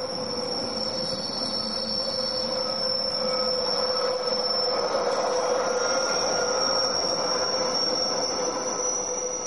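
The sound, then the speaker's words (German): An MOB railway train rolls past on the track in Sauzier with a steady rumble while its wheels squeal continuously in high, sustained metallic tones for the whole stretch, with no voices. “wohne in Sauzier direkt neben dem Gleis der MOB.”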